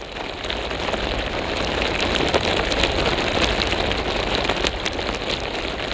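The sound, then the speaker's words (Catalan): Water from an irrigation hose in the village of Riumors, near Figueres, rushes and splashes in a steady, dense hiss with faint crackling spatters, unbroken for the whole stretch and with no voices. “Doncs mira, això és una mànega de regadiu d'un poble que es diu Riumors, que jo hi vaig molt sovint.”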